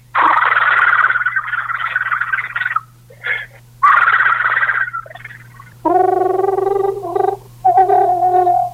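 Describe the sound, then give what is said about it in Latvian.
A human voice imitates a green toad's call: long, rattling, purring trills broken by short gaps, then a clearer, higher humming trill in several bursts, with a low steady hum underneath. “Tas ir zaļais krupis. Dziesma līdzīga, arī milšu krupie dziesma, arī līdzīga, bet daudz garāk skan tas skaņa.”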